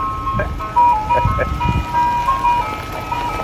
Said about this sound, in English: Is this the new pull-me-over sound or the Santa Rosa County Sheriff's deputy vehicles? not vehicles. We have over 300, and this is the only one with that very unique siren that we programmed into it.